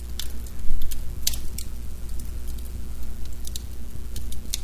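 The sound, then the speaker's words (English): A log fire crackles in a fireplace, with irregular sharp pops and snaps scattered over a steady low rumble. There is no talking. “I literally have spent the weekend in front of this fireplace in a big leather chair, reading books, watching a little TV, reviewing some podcasts.”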